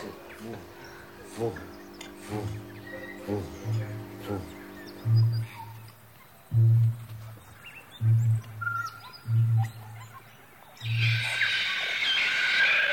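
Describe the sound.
A human voice imitates a bird's booming call with a series of deep, hollow, hum-like booms, about eight loud low pulses in an uneven rhythm, ending in a burst of hissy noise.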